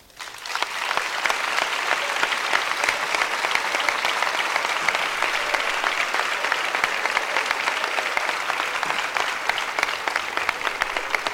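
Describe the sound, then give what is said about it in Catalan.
Sustained applause from a large audience at a town's Festa Major speech, dense and steady clapping that rises quickly and holds at full strength for about eleven seconds, without any talking. “És per aquest motiu que demano un fort aplaudiment per tots ells.”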